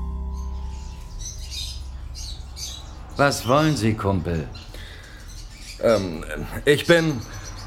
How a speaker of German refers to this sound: Hinter ihm konnte ich erkennen, dass sein Zimmer voll mit Käfigvögeln war, die alle zwitscherten.